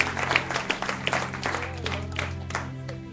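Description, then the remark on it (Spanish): An audience applauds during a sermon with a dense, steady patter of clapping lasting about three seconds, moderately loud, with a low sustained hum underneath and no one speaking. “No dieron un aplauso ahí, ¿verdad que no?”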